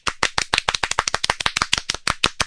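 A burst of applause for Mario Conde, with dense, rapid hand claps from a group, steady and fairly loud throughout, with no voices on top.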